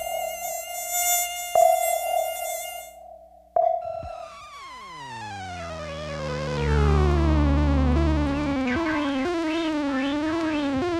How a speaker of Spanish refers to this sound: Y ya sabe qué tan lejos está el insecto, dónde está y hasta qué tipo de insecto es. ¡Sálvense, mosquitos!